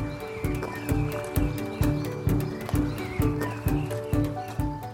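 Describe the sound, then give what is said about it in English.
Steady, evenly paced hoofbeats of a horse clip-clopping along, drawing a cart, with a low rolling rumble underneath and no voices. “You could stick it on a boat, a train, a horse and cart.”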